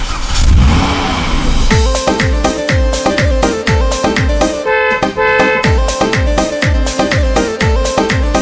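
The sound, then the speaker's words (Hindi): A car engine revs loudly in a short, rumbling burst, then a punchy song with a steady, driving drum beat and bright melodic lines takes over. “अरे चौधरी, वो गाड़ी घनी फूटरी ले आया है।”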